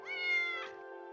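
animal, cat meowing

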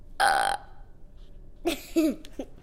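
human body sound, deliberate burp

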